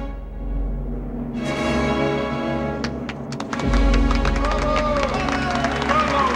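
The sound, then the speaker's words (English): A standing opera audience bursts into sustained applause, dense overlapping claps with a low murmur of voices beneath and the clapping swelling louder partway through. “He passes her a handkerchief as the patrons next to them stand and clap.”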